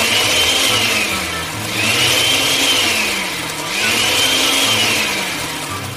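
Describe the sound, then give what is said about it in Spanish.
A blender runs loudly and continuously, its motor pitch rising and falling in cycles as it purees a thick mixture of cooked tomato, garlic, serrano chiles and onion for a sauce. No voices are heard. “Una vez cocidos, los pasamos por la licuadora y licuamos muy bien.”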